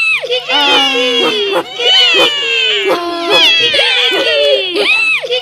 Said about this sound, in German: Der Esel schrie, der Hund bellte, die Katze miaute und der Hahn krähte.